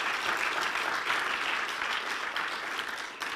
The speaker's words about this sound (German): Herzlichen Dank dir, der das finanziell möglich gemacht hast, aber auch herzlichen Dank allen Kameraleuten und Technikern. Und lass uns ihnen doch schnell einen herzlichen Applaus geben.